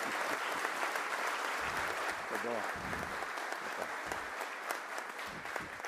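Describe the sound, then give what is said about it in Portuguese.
A crowd applauds steadily for about six seconds, a dense, even wash of clapping with sharp individual claps standing out, and a voice briefly audible beneath it. “Que ganhar mais aplausos do que nós ganhamos agora seria impossível.”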